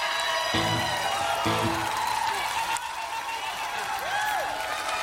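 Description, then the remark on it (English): A live crowd applauding and cheering, with a steady wash of clapping, scattered whoops and shouts, and a couple of brief voices rising above the noise. “Y'all sound good out there.”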